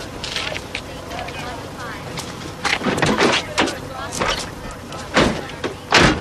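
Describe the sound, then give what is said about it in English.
A car door opens and shuts with a few solid thuds and clunks as a man gets into his car, over a low rustling background of movement and faint muffled voices. “With a weary expression, Finch gets into his car.”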